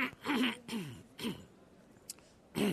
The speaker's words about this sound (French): Je vais faire une petite pause pour tousser un peu.